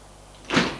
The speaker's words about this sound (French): Elle ouvre la porte de l'ascenseur et elle tombe nez à nez avec Monsieur Cordex.